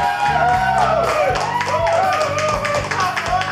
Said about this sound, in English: Good, honest cheering. I like that.